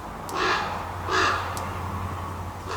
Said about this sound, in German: Am Heidelhof werden auch Keas beforscht. Das sind neuseeländische Papageien. Und die hören sich so an.